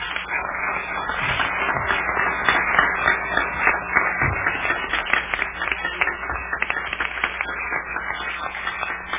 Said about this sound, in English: Let's just give him a warm hand clap.